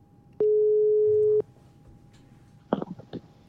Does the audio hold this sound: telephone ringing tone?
yes